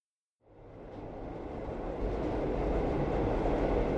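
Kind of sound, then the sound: vehicle, train travelling on rails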